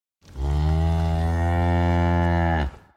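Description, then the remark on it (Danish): A dairy cow lets out one long, loud moo lasting over two seconds, a steady low bellow that holds its pitch before cutting off, with no other sounds. “For en mælkeko kan lave helt enormt meget mælk.”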